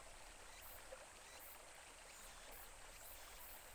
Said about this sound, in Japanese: そっと耳を澄ませば近くに流れる小川のせせらぎや鳥たちのさえずり、セミの鳴き声、涼やかな風鈴の音、耳へ届くたくさんの音色が私に安らぎを与えてくれるの。